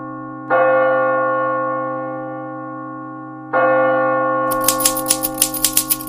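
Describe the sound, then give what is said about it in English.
Two long, resonant bell-like tones from a typewriter's carriage bell ring out a few seconds apart, then a quick run of sharp typewriter key clacks starts over the second fading tone as a letter is typed on a typewriter found in an abandoned house. No one speaks. “I am writing you this letter on a typewriter I found in an abandoned house.”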